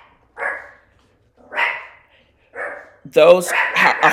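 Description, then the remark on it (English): A dog named Ethel barks three times in a steady rhythm, each bark short and fairly loud with pauses between, then a person starts talking over the end. “and that's Ethel barking.”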